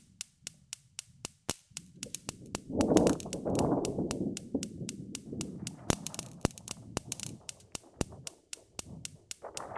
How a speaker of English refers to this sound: Domestic weather experiment 21. Lightning created using insecticutor and gas cooker ignition.